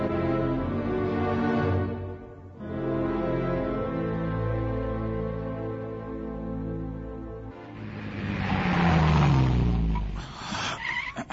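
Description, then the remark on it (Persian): The engine of a detective's car runs loudly, its steady hum dipping briefly before returning, then revving harder toward the end with a rougher, gritty roar and what may be a tire squeal. “ماشینت از اون ماشینای کارگاهیه ها. ولی موتورش خیلی رو برانه ایست.”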